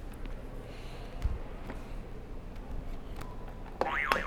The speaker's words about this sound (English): So can you press another buzzer?